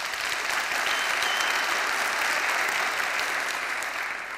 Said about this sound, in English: And you're going to see a preview of that noise level inside my application here, which seems it's working. Yes? Great. Was there a clap?